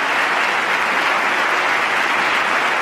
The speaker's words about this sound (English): And at the end of this long applause, he finally gets to the point of asking this Congress to make that difference.